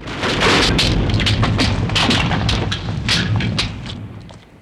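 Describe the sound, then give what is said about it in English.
A deep, sustained volcanic rumble, a shudder from the volcano that cracks the writing on the wall, with crashing, crumbling bursts of falling debris as part of a ceiling caves in, loud throughout and easing slightly at the end. “A shutter from the volcano cracks the writing on the wall. Part of the ceiling caves in.”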